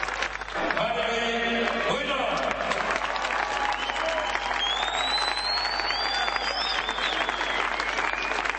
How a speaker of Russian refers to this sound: Дома, в Пскове, чемпиона мира встречают аплодисментами. Торжественный прием в городской администрации.